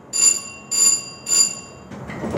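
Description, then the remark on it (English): A bright bell rings three times in an even rhythm, each ring sustained with a clear metallic tone, followed by a low rumble of machinery as an inclined railway car in Pittsburgh begins moving up a steep ridgeline. “We got an overview of Pittsburgh from an inclined railway. It runs up a steep ridgeline, giving a view of skyscrapers downtown.”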